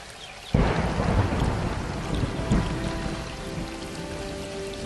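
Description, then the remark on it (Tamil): Heavy rain pours down steadily as a deep roll of thunder breaks in loudly after a quiet start, rumbling on with a second swell before fading into the constant downpour. “அதேபோல் இப்போது கற்பனையில் கொட்டும் மழையில் நனைவோம்.”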